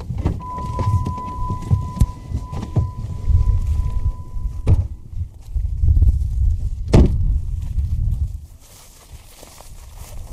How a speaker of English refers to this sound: It's kind of windy out on the plains today.